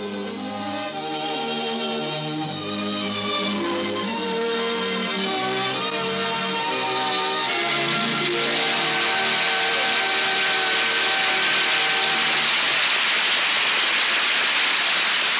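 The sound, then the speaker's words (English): Orchestral music plays, then a dense, hissing wash of applause from the studio audience in Hollywood for Orson Welles and Ray Collins in Norman Corwin's The Plot to Overthrow Christmas on This Is My Best swells up beneath it and takes over, steady and loud through the final seconds. “We join the audience here in Hollywood in applauding Orson Welles and Ray Collins in Norman Corwin's The Plot to Overthrow Christmas.”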